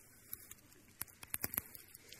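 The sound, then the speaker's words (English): The foil seal of a communion juice cup being peeled open during a communion service: a quick series of soft, irregular crackles and small tearing clicks, crisp and fairly faint, with no voices. “Then you can open your cup.”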